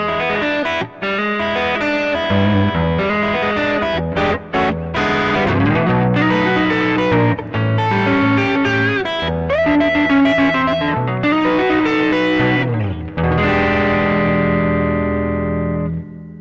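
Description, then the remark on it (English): An electric guitar, broadcast over Skype, plays a loose, bluesy lick with a warm, slightly overdriven tone, notes bending and sustaining, ending on a long ringing chord. No one speaks. “A little bit of the bluesy type sound.”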